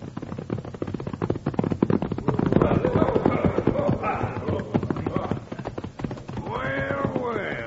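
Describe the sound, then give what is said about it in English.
Horse hooves clip-clop in a quick, steady rhythm, loud, as a rider rides up on horseback, the clatter growing a little stronger partway through, with a brief voiced sound rising over it near the end. “He's going to ride right up to us, Bill.”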